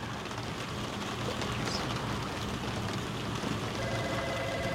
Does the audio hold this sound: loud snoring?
no